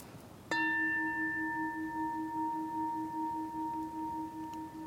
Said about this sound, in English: You notice that's a bell, the sound. Hard to not notice that.